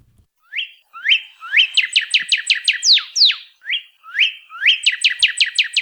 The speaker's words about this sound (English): Northern cardinals are among the most common and recognizable birds in towns, backyards, and even some forests across Hawaii. Introduced to Hawaii in 1929, they're also one of the most abundant birds in North America